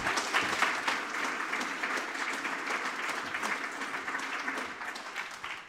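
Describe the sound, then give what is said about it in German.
An audience applauds to welcome speaker Udo Vetter before his talk on the legal aspects of digital life: a dense wash of many hands clapping at an even, fairly loud level throughout, with no voices standing out above it. “Bitte einen wunderbaren Applaus für Udo Vetter und viel Spaß.”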